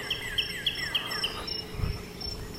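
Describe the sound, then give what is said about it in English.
Birds chirp in the morning around sunrise, in humid air, in a quick, evenly spaced series of short high calls over a steady high insect drone and soft outdoor background, then the chirping fades out. “Listen to the birds.”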